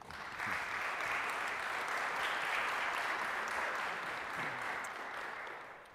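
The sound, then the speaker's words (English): An audience at a 9 o'clock session applauds itself steadily for several seconds, a dense wash of many hands clapping at once, fairly loud and sustained before tapering slightly at the end. “Please give yourselves a round of applause for making it at 9 o'clock.”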